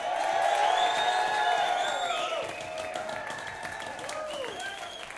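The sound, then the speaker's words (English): A concert crowd in Eugene, Oregon erupts in loud, sustained applause mixed with shouting and high whooping cheers for a band before it plays. The noise stays dense for about five seconds, easing only slightly toward the end. “Before we even play one note, I would like everybody to make as much noise as possible for my favorite band,”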